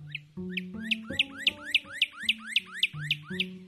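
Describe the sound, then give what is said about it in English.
Three northern cardinals sing to each other, heard from a front porch: a steady series of about a dozen bright, down-slurred whistled notes, evenly spaced and fairly loud, over low sustained tones that shift in pitch underneath. “In her poem, Trading Threes, she describes the experience of being out on the front porch with her dog and hearing three northern cardinals singing to each other.”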